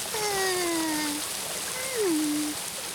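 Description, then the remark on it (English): A steady, hissing wash of flowing stream water, which a big dam is being built to stop, runs throughout, with two brief gliding tones sliding downward in pitch over it, like short vocal sounds. “Look, we're making a big dam to stop the water.”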